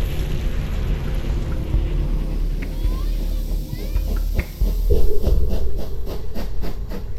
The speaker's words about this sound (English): The train pulls into a nearby station. Relieved passengers wait out the storm.